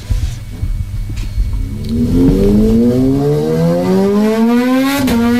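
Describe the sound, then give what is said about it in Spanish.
A motorcycle engine at the start of a song idles low, then revs up hard, its pitch climbing steadily into a loud, sustained roar, with no one talking. “Este es el de la moto. La moto. Esta es la canción de la moto.”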